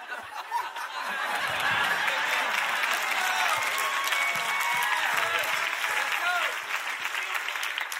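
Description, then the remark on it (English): A church audience breaks into sustained clapping, a dense, steady wash of many hands with scattered chuckles and laughter mixed in, easing slightly toward the end. “If you clap, I won't call you out.”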